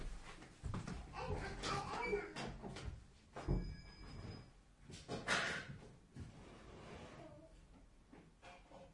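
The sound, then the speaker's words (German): A few thumps and clunks, like a door being opened or shut, mixed with background voices and a brief high electronic tone in the middle. “Wir haben doch noch eine Tür. Hier ist eine Tür.”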